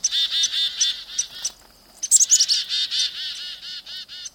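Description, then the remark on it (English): A black-capped chickadee's alarm call: a rapid, steady stream of buzzy chattering notes, broken midway by a few thin, high whistles, loud with no other sounds around. “In much of North America, black-capped chickadees lead in forming such flocks, and, should a hawk be sighted, whistle an alarm call that the other species understand.”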